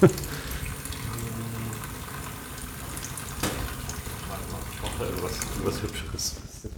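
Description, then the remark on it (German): A sink tap in a chemistry lab runs in a steady, continuous rush for several seconds, with muffled voices faintly underneath before the flow cuts off near the end. “Nein, das ist Probedestillatapparat und eine Spüle, die man einmal.”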